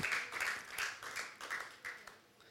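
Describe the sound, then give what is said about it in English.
An audience claps together in a steady, even rhythm, roughly seven sharp beats in quick succession, fairly soft overall with no voices over them, clapping to give God praise in the morning. “If you want to clap, if you're going to clap, let's clap.”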